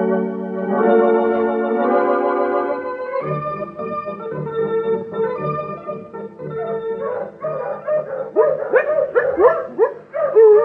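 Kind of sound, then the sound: animal, dog barking and whimpering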